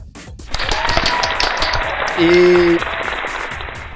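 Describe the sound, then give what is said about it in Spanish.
An audience bursts into steady, dense applause that swells after a quiet start and keeps going, with a short sustained vocal note rising above the clapping midway through. “Aplausos también.”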